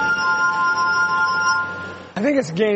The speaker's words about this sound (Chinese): 甚至这首台湾的…。 Very amazing， 很美妙。 图纳以演奏玻璃琴为生，甚至还和美国顶尖乐团合作过。